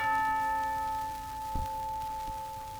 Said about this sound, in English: Now listen to the way FM reproduces this cool chime.